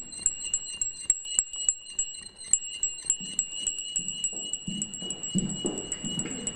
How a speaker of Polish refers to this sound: dzwonek mosiężny wielkości pięści, ulany na wzór średniowiecznych dzwonów z Mont-Saint-Michel. Kiedy mi bardzo smutno i siedzę sam w przyciemnionym pokoju, dzwonię sobie od czasu do czasu i cisza ucieka razem z czarnymi myślami.